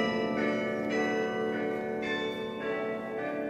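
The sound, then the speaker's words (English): Church bells ring out in a steady, overlapping peal welcoming Laurel and Hardy on their 1953 visit to Ireland, their rich ringing tones sustaining loudly without any voices present. “When they heard the bells and got that welcome and they cried, I think then they finally realized how loved they were.”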